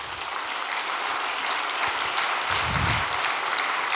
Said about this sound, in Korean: 우리 박수 한번 쳐드립시다.